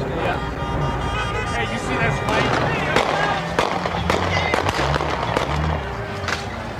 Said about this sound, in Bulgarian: Полицията направи опит да ги разпръсне, но и последвали изстрели от двете страни.